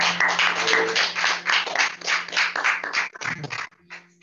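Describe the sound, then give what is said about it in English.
Many hands clap together in a dense, steady patter that lasts several seconds, then breaks up and fades, leaving a faint low hum underneath. “Let's just give my hand clap.”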